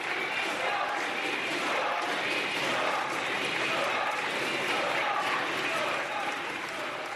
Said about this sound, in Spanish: La intervención de Delgado ha provocado los aplausos de la bancada socialista y gritos de dimisión de los populares.